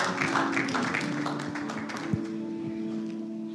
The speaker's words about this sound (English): Give them a clap. Thank you.